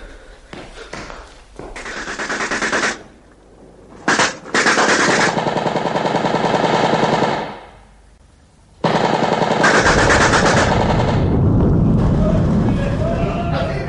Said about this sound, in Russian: У входа в казарму грохот близкого боя оглушил ребят, заставил прижаться к стене.